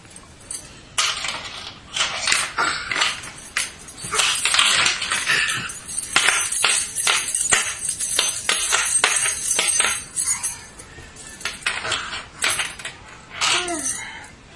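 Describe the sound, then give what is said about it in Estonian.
A bunch of keys jingles and clinks repeatedly, bright metallic rattles in irregular bursts as they're handled and hung back in their place on a hook, with a brief quiet gap near the end. “Paneme võtmed oma koha peal tagasi. Paneme võtmed oma koha peal. Paneme konksu otsa.”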